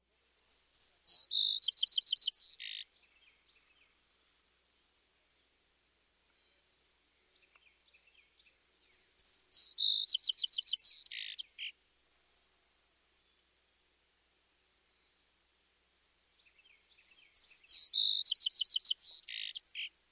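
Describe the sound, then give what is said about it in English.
Three bursts of bright, high-pitched bird song arrive about eight seconds apart, each a quick string of clear notes and trills lasting a few seconds, with quiet gaps between. A song sparrow's song variation. “Individual song sparrows give their own variations. Let's listen to several different birds.”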